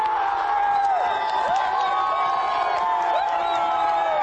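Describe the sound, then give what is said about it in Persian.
A large crowd of football fans roars and cheers continuously after Tajikistan's first goal in the 46th minute, with many overlapping shouts and rising whoops forming a loud, dense wall of sound. “هنوز داد و فریاد مخلصان از گل نخست تمام نشده، نومان جان حکیموف در دقیقه 47 حساب را 2-0 نمود.”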